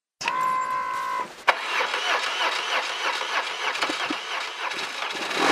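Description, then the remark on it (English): A tired 1999 BMW motorcycle named Betsy, ridden by a German visitor touring Alaska, cranks with a steady whine for about a second, then catches and roars into a rough, loud idle that keeps running, with no voices. “Matthias Kanura starts up his tired 1999 BMW motorcycle.”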